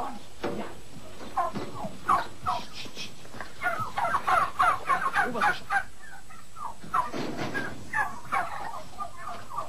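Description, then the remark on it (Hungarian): A flock of hens on a farm calls and clucks in a steady stream of overlapping bursts, fairly loud, with no clear talking over them. “Na ez az a farma, amiről beszéltem. Itt a tyúk.”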